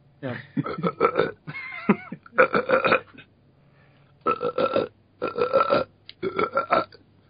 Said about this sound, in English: He's sitting there going da da da dum, you know, drinking his beer, maybe burping it out.